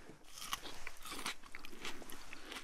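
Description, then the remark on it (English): Wet crunching of someone biting into and chewing a slice of a large supermarket slicing tomato, a steady series of moist crunches and smacks with no talking. “I am going to take a slice out of it, and we're going to taste it.”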